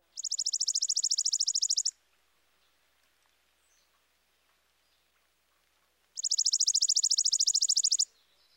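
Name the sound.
chipping sparrow song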